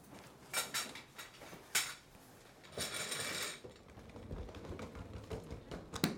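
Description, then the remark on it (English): Metallic clinks, clatters and scraping as portable dental equipment is unpacked and fitted together in Moorhead, Minnesota, with brackets screwed together and a dental chair, lights and a drill assembled; sharp taps and a sustained rustling burst in the middle, with no talking. “We're in Moorhead, Minnesota, and she's unpacking her equipment, screwing brackets together, and assembling a dental chair, lights, and yes, even a drill.”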